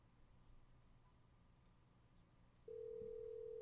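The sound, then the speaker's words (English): A telephone line to a cell phone in Athens, Greece starts ringing partway through: after a stretch of faint line hiss, a steady, clear ringback tone begins and holds to the end. No one speaks. “Hey, it's ringing, so that's good. Less dead air, more ringing.”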